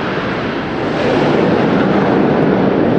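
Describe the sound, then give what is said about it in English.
A loud, steady roar of nine Hawk jet aircraft of the RAF aerobatics team flying past in formation, a dense rushing wall of engine noise that holds constant throughout with no voices. “That sounds like 9 Hawk aircraft of the RAF aerobatics team.”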